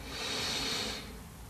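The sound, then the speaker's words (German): One long, deep, airy inhale, the third deep breath in a guided meditation, rushing steadily for about a second before tapering off. Nobody speaks. “Wir nehmen den dritten tiefen Atemzug und atmen ein.”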